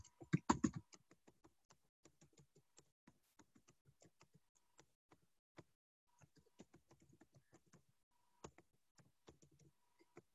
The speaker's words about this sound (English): And if the sound of this keyboard is a little harsh, I'm sorry, but I can't give up the computer yet for the time it would take to repair it.